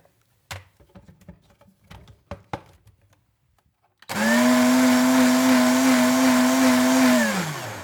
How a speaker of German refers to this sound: Du nimmst einfach mal ein altes, ausgeleierte Unterhose von dir, okay, packst sie bitte in den Mixer rein. Ja, dann machst du bitte jetzt nochmal 1 Liter Wasser dazu. Ja, warte, muss ich kurz abmessen. Ja. Mhm. Okay, und jetzt mach mal den Mixer an.